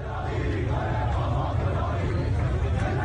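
Hundreds of protesters in the city of Isfahan chant anti-government slogans together on a Monday night, a dense, continuous roar of many voices that stays loud and steady throughout, with no single speaker standing out.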